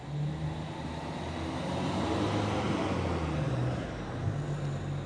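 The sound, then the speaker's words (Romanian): Steady road traffic at night, cars passing continuously with a broad, hissing rush like rain on pavement and a low engine rumble underneath; no voices. “Dacă te concentrezi atent pe mersul mașinilor, ai impresia că s-a pornit o ploaie de mai mare dragul, că-i toarnă cu găleata.”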